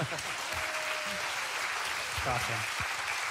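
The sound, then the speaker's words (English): A crowd claps steadily in a dense, even wash of applause that holds the same loudness for a few seconds, with faint voices and a brief shout mixed underneath. The crowd is clapping in place of party poppers, which have run out. “We're out of poppers, so just clap one more time.”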